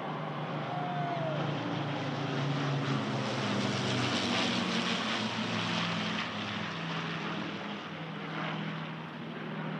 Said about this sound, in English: as the planes fly over Buckingham Palace for this RAF flypast, a selection of World War II aircraft heading over.